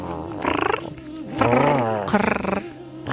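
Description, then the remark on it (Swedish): A person imitates a cat purring with drawn-out, rumbling vocal sounds, a few bursts in a row with a trembling, purr-like quality. “Jag skulle låta som en katt. Ja, du låter som, vad heter det, kurrar. Spinner.”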